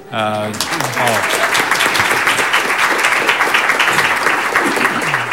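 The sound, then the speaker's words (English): A short stretch of speech gives way to loud, sustained audience applause at the start of a city study session meeting: dense, steady clapping that holds at an even level for several seconds without letting up. “I'll try to cue applause at the beginning of every meeting going forward.”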